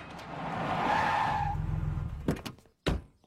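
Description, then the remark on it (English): Peter Griffin's pickup truck in Family Guy skids loudly to a stop, tires screeching for about a second and a half, followed by two sharp thumps like doors slamming. “Peter, what the hell are you doing with a pickup truck?”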